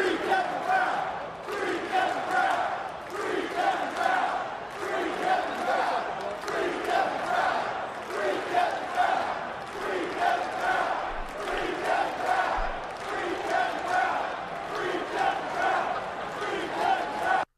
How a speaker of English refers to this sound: The crowd in Camden Yards last night, in between pitches at one point, clear as day, loud, full voice, chanted, "Free Kevin Brown, free Kevin Brown." Here's how it sounded.